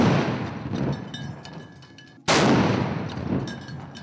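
A heavy, booming cannon blast from a ceremonial salute fired for Statehood Day in Belgrade rings out after a stretch of rumbling echo, its long reverberant tail rolling away outdoors.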